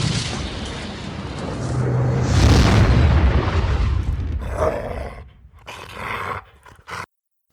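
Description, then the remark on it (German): A deep, rumbling boom swells into a roaring impact that tears a meter-deep furrow into a gravel path, with crackling, scattering debris like gravel being torn up, then trails off into fainter crunches and clatter before cutting to silence. “Der erste Einschlag reißt eine metertiefe Furche in den Schotterweg.”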